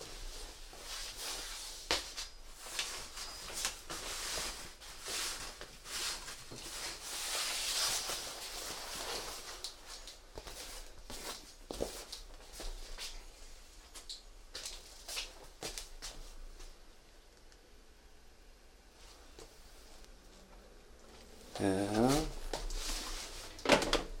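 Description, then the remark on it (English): Busy handling noises as studio equipment is disconnected and packed away: rustling, clicks and clattering of objects being moved and set down, with brief bursts of louder shuffling and a clunk near the end. Speech appears faintly at moments. “But this is what it looks like when I disconnect and put away my studio.”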